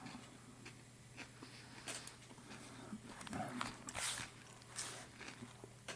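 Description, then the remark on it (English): Crunching bites into fresh cabbage, several crisp, crackly bursts spaced a second or so apart over a low steady hum, with no one speaking. “Look, crunchy.”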